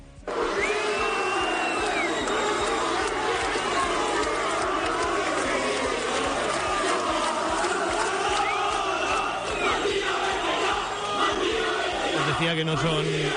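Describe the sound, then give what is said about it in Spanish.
A large Hércules football crowd at the Rico Pérez stadium in Alicante jeers and chants 'Mandía, vete ya' without letup at club president García Pitarch as he makes his way to his car, a dense roar of angry shouting for the whole stretch, with a couple of rising and falling whistles cutting through. “Bueno, el público terminó entonando el mítico Mandía, vete ya, y a García Pitarch, que era el presidente del Hércules en aquel momento, le costó llegar al coche entre la bronca de la afición.”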